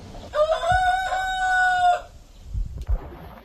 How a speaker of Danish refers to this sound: Det var nemlig en hane. Hane, ja, det var også det, jeg mente. Ja. Det er …, der har lært at gale.